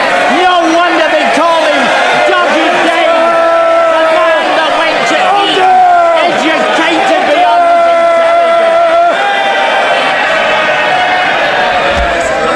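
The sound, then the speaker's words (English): Labour Party members in parliament shout and cheer loudly and continuously, a rowdy roar of many people with overlapping yells and calls sustained throughout. “Very good to see the Labour Party in full voice cheering on Jurassic Park.”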